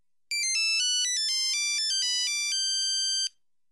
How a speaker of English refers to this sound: No words, just the sounds of cell phones coming from all directions. The annoyance is intended to be theater in itself.